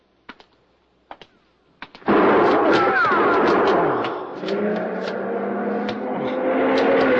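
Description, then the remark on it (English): Three sharp gunshots crack out about a second apart, fired from a passing long black coupe with a lot of chrome and no lights on, hitting a man walking out of an alley; then a loud, continuous roar of noise with what may be voices fills the rest. “Shooting! You've been hit.”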